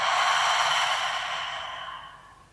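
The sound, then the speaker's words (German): A single slow, breathy exhalation during a guided meditation breathing exercise, fairly loud, starting full and gradually fading away over a couple of seconds, with no talking. “Gemeinsam atmet ihr ein und aus.”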